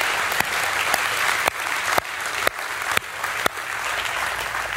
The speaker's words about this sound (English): I'm so glad you clapped to that.